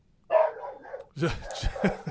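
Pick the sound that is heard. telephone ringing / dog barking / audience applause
dog barking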